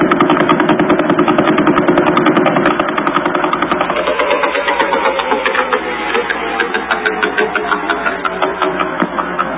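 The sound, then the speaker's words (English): Vela pulsar radio pulses, slowed down and rendered as sound: a dense, rapid stream of buzzy clicks, steady and loud, rattling like a sewing machine motor, with the tone thinning slightly partway through. “And then we had the Vela Pulsar. You remember the Vela Pulsar, right?”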